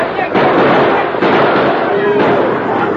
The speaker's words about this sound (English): At a shout from the masked man, shots rang out over the heads of the bewildered steers.